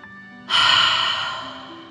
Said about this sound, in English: let's take three more deep dragon breaths. Deep breath in and out. Breathing in through your nose and breathing fire out of your mouth. Again, deep breath in and out.